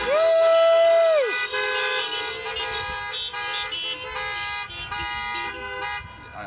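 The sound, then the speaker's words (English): A chorus of car horns honking for all the moms: one loud, steady blast opens, then many overlapping horns blare together continuously, loud, with no talking. “Let's give a big big honk for all the moms today.”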